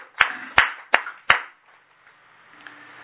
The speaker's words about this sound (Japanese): 今日はアメリカのライオン浩二君が満14歳を迎えさせていただきましたので、盛大な拍手でお祝いをしています。